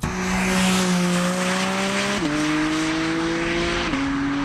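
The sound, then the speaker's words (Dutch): A loud Porsche 718 Cayman GT4 RS sports car engine roars steadily, its droning tone climbing gradually and dipping twice at gear changes, with a rushing wash of road and wind noise underneath and no voices. “De Porsche 718 GT 4 RS.”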